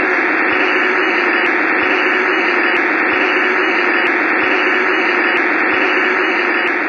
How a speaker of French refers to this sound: Ce dernier allait inventer le premier récepteur radio qui permettait surtout d'écouter des parasites à l'époque.